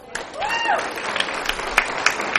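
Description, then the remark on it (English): An audience applauds steadily for award winners, a dense wash of many hands clapping with a few sharper claps standing out, and a brief rising-and-falling whistle-like tone near the start. “Let's have a big round of applause for our winners.”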